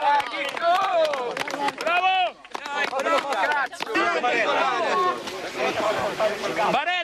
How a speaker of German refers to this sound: Der Jubel der Helfer ist riesig, als sie den ersten Überlebenden aus den Trümmern ziehen.